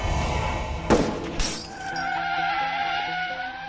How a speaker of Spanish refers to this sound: El disparo sobresalta a Baldomero. ¿Qué pasó? Mira a Santiago y ve que está salpicado por los cristales rotos. Allí se da cuenta de que el parabrisas delantero tiene un enorme agujero, pero su jefe está bien.